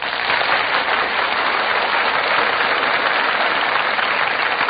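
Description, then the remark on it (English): A studio audience at the Gulf Theater bursts into sustained, loud applause as the cast enters the stage, a dense steady crackle of many hands clapping at once with no break and no voices over it. “The audience greets them with a tremendous burst of applause.”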